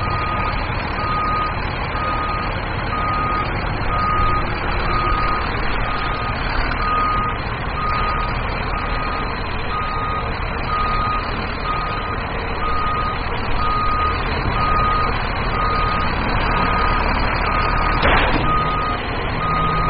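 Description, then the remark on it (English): A truck's reversing alarm beeps steadily and evenly over a loud, continuous engine rumble, with no voices, the regular tone repeating throughout. “Truck up here.”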